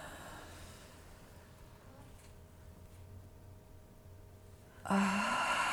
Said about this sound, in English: Okay, so let's try that. Okay, everybody, real deep breath.